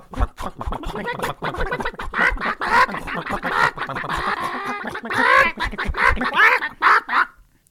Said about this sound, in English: In 1941, leopards were causing issues, and one night, Martha Larson's chickens sounded a bit unsettled.